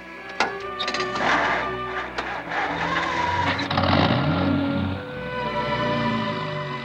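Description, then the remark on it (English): Atticus's car, with Atticus at the wheel and Jem aboard, pulls away. Its engine rumbles and the steady drone shifts in pitch as it drives off, with a few sharp clunks at the start and no voices. “He takes the wheel again, and Jem reaches over the front seat and grabs his father's shoulder.”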